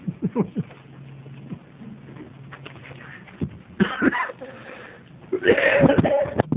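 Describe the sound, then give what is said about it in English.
A loud, abrupt sneeze bursts out during a committee meeting over a low background murmur, with a shorter noisy burst just before it. “Bless you.”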